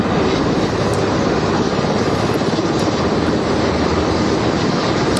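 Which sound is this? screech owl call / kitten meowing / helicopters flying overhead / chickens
helicopters flying overhead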